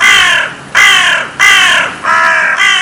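A crow caws loudly, four or five harsh, drawn-out calls in a steady rhythm, each one rasping and slightly descending, with short gaps between them.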